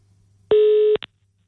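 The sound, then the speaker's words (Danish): A single loud, steady electronic telephone tone sounds for about half a second, followed by a brief click, with no one talking, as a call is placed to veterinarian Mikkelsen. “Jamen, så ringer vi til Mikkelsen.”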